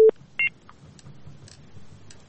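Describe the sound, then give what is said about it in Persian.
A short, loud electronic beep is followed by a second higher-pitched tone, then faint scattered blips over quiet line hiss, as a caller's phone line to a radio phone-in cuts off. “بله، اړیکه یې پرې شولا.”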